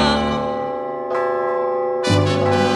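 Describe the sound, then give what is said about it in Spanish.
Large bells ring out in three heavy strikes about a second apart, each clang overlapping the long, humming resonance of the last. The ringing is loud, with no voices. “Ahí dejamos a los perros para que toquen las campanas, mientras nos vamos corriendo por los indios del Mezcala.”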